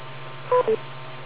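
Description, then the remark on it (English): Two quick electronic beep tones from a radio repeater, back to back and fairly loud, over a steady band-limited hiss and low hum, a courtesy beep on a narrow channel before the carrier drops. “Wait for the beep. Now wait for the drop.”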